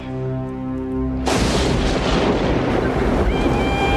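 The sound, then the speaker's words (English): A low steady hum gives way abruptly to a loud, continuous roar of stormy wind and crashing rough ocean waves around a small sailboat on choppy water, churning on without letup. “He screams as his father drifts farther away into the rough ocean.”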